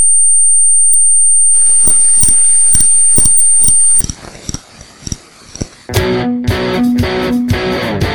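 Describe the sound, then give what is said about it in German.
A thin, steady high-pitched whistle like tinnitus rings unbroken for about four seconds and then cuts off, while a sharp ticking beat begins beneath it and ends in a burst of bright, buzzy tones. “Termi Tinnitus, das pfeift.”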